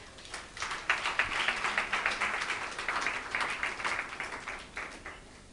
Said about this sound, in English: Is it a good thing? Yeah. I thought you should clap for that.